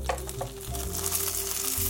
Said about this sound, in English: Again, we're just gonna let that fry up for a couple minutes. Smells so amazing here. I love the sound of the batter sort of sizzling in this oil.